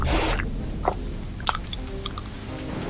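Wet, close-up mouth noises of someone chewing, with a few smacking clicks and squelches spread across a few seconds. No talking.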